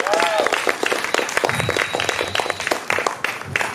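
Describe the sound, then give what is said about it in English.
An audience bursts into steady applause for a meditation ceremony, dense overlapping claps with a few whistles and cheers rising above the clapping. “Let's give another round of applause, make some noise for the meditation, for the ceremony.”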